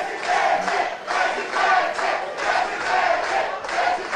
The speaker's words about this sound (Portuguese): Durante um evento na Grande São Paulo, Tarcísio foi recebido aos gritos de presidente.